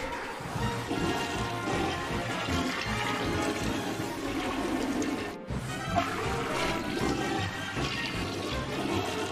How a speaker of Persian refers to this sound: و وقتی سیفون توالتو میکشی آب میره تو فاضلاب. پس کاپتن زیر شلواری، باید بری سیفون تمام توالته شهر رو بکشی.